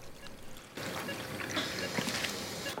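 Fluid is poured into a patient's open chest cavity during surgery, a steady wet splashing and trickling that starts abruptly after a brief quiet moment and continues fairly loud, with no talking.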